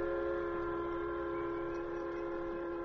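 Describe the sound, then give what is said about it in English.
The first Union Pacific Railroad train rumbles steadily westward along the tracks while a sustained, droning whistle or horn tone holds over the noise for the full three seconds, loud with no voices. “When the first train thundered westward on tracks that continued unbroken across the entire West, the Lone Ranger and Tonto watched from a hill.”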